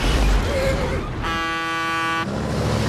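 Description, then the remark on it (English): Huge lorries roar past on both sides of a car towing a horse trailer on a road, with a loud, steady, rumbling wash of engine and road noise, broken by one sustained blast of a truck's air horn lasting about a second. “Huge lorries thunder by them on both sides.”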